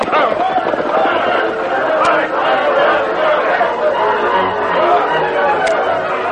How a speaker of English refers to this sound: They were just entering the town when they saw smoke pouring out of a building and a crowd of people running with pails of water. A fire, Tonto. Building right down there.